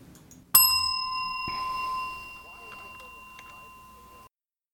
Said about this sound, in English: You know, yeah, I'm gonna run to the bathroom now, so this is probably a good time for a bell.